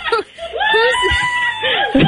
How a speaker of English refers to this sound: so is somebody yelling in the background? Yeah, my coworkers.